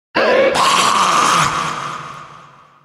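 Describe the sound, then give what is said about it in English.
A ghoul's guttural groan erupts into a harsh, raspy monster scream as it charges, loud, held for a couple of seconds before slowly trailing off. “The ghoul screamed and charged.”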